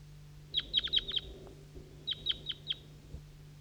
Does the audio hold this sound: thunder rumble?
no